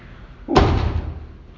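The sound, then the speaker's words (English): A door slams shut in the wind with a single loud, sharp bang, followed by a brief rumbling decay as the impact rings out. “You can shut the other door if you need to.”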